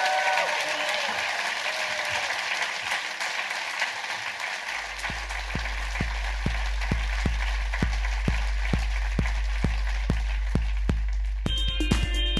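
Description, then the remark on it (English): A large audience breaks into loud, sustained applause for a guest, and partway through a steady rhythmic thumping beat joins in beneath the clapping. “give a massive round of applause to the incredible Tim King!”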